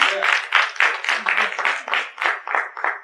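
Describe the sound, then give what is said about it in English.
A crowd of people clapping their hands together in praise of the Lord, in a steady, rhythmic beat of about three or four claps per second, with a loud, full sound and some vocal noise blended in. “Give the Lord a hand clap of praise, because that's what we do.”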